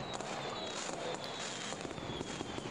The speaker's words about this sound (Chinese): 啊，可是他烟花在放的时候，这里还是有点亮的，我怕被看见啊。没关系，但你看他们烟花还没放完，他们都还在看呢，还没散场呢。